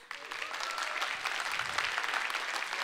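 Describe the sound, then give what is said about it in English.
An audience breaks into steady applause, a dense wash of many hands clapping that starts abruptly and holds at an even, fairly loud level throughout, with no voices on top. “And so as I do, I want you to show them your appreciation right here on my right.”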